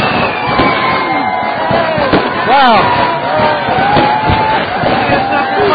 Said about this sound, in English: We have fireworks. We're going to set off the fireworks ourselves.